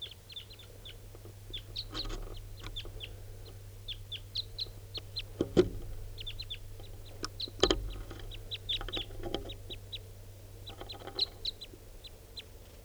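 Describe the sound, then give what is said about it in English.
Wild birds, more and different ones coming in, call continuously in quick, high-pitched chirps and short repeated notes, layered over a steady low hum, with two sharp loud knocks cutting through midway; recorded at 6:43. “Recording at 6:43, more wild birds coming in, different birds.”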